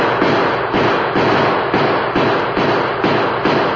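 gunshots

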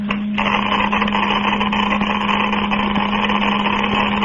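geiger counter clicking

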